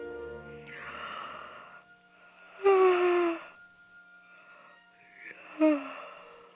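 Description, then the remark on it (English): A voice acts out a couple of drawn-out, breathy yawns, each swelling into a brief moaning groan before trailing off, fairly loud, with soft breathing between them. “Okay, that was not a yawn.”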